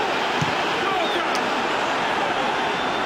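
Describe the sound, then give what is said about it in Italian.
A large stadium crowd of Torino fans rumbles in protest during a football match against Roma, after Glik asks for a penalty, a dense, continuous roar of many voices that holds steady and loud throughout without breaking into distinct chants or individual shouts. “Rumoreggia il pubblico di Fedegranata, ma non sembra esserci niente.”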